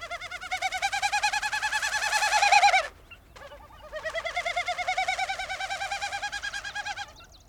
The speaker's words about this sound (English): at which point you hear this, courtesy of the specialized tail feathers of a displaying Wilson snipe.